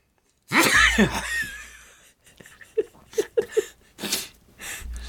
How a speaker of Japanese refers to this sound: おじいさんは大変、お話はしなきゃいけないし、鼻水は出てくるし、くしゃみは出るし